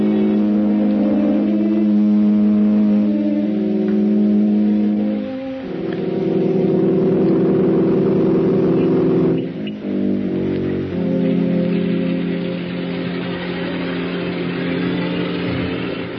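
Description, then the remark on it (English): A car engine hums steadily, its droning pitch shifting at a couple of points as it slows and settles, like a vehicle pulling up: Mr. Holman's car being brought round for him. There is no talking. “Mr. Holman, your car, sir.”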